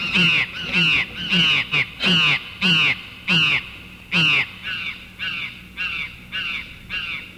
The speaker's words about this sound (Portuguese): As águas adquirem reverberos metálicos, emprestando tonalidades estranhas ao azul das asas das gralhas que, aos gritos, cruzam o rio com seu voo compassado.